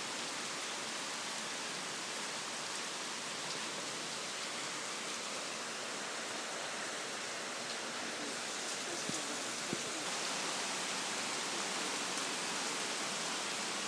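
Heavy tropical storm rain in North Carolina pours down in a steady, dense hiss that stays constant throughout, with a couple of faint brief knocks near the end and no voices; thunder comes only every so often, not very close or loud.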